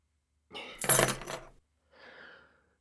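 A short, bright jingle of metal house door keys clinking together as they are handed over, followed a moment later by a softer, briefer rattle as they settle into a hand.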